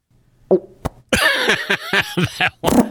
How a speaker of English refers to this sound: Yeah, that must be a really good fart. It's not that one, I don't think. No, it's got to be a much better fart than that. They all sound the same.